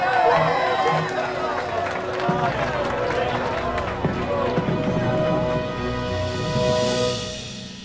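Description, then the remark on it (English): A large crowd cheers and shouts continuously, loud and dense throughout, welcoming Jacques Cousteau as he sails the Calypso into New York harbor in 1958, with steady horn-like tones from tugboats and fireboats sounding underneath, the noise easing slightly near the end. “It's no wonder people were cheering for Jacques Cousteau”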